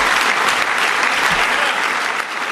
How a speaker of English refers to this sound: Big crowd, lots of applause there in the White House last night.